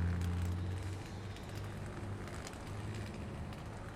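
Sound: street traffic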